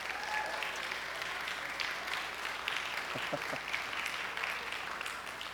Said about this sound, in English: And for all of you fathers out there, we want to wish you a very happy Father's Day. In fact, ladies, if you would, just give those men a wonderful round of applause.